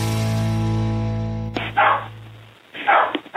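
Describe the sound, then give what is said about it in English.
A dog barks twice, fairly loud, after a steady droning tone cuts off. The two sharp barks are spaced about a second apart, with no one talking. “It's the first time we've gotten a call from a dog.”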